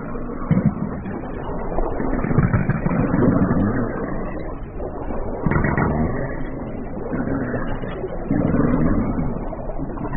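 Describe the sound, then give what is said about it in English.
A minke whale call with a deep, mechanical twang drones steadily for about ten seconds, swelling in loudness in repeated pulses with a gritty, engine-like buzz and no voices. “The mechanical twang of their call is so powerful, you feel it rather than hear it.”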